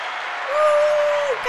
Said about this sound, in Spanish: Un aplauso para ese divorcio. Sí.